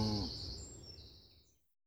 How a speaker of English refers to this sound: The cows are drinking. Wow! Aren't they big when you're close to them?